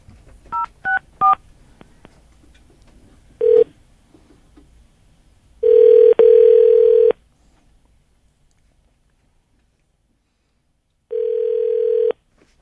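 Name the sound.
telephone ringback tone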